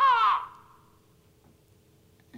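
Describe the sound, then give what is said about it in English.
A single harsh, raspy crow caw, loud, lasting under half a second and then trailing off into near silence with faint background noise. “Like a crow.”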